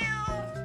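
A single short, clear cat meow with a bright tonal, slightly falling pitch. No voices accompany it.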